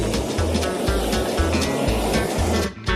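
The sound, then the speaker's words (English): A heat gun roars steadily and loudly as it blows across shrink wrap plastic, fusing it together, with low buffeting flutters throughout and a brief dip just before the end. “The shrink wrap has to be dry when the heat gun is used.”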